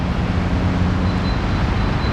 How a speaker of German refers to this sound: Die Autos fahren.